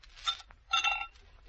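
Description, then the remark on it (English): Ice cubes clink as they are dropped into glasses, before Coca-Cola is poured, in two quick bursts. Each is a bright, ringing jangle with a faint pause between, fairly quiet and with no voices. “Get the glasses. Drop in the ice.”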